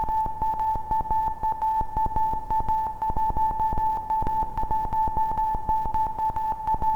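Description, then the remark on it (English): A steady, sustained synthesizer tone hums at a constant pitch while quick, rhythmic electronic clicks pulse throughout, fairly loud, with no one talking. “And so here we are, sitting in front of the synth again, sending messages to aliens.”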